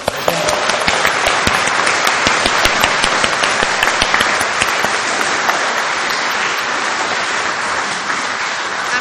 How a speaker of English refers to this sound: Why can we give them all a clap then?